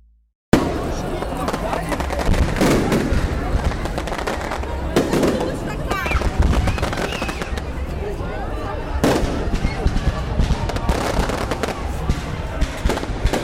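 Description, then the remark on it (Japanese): Fireworks launching and bursting right in front of the viewer, a dense run of sharp cracks and booms for over ten seconds, with some spikes louder than others and crowd-like voices underneath. “目の前で花火が打ち上げられてるのを初めて見たよ。”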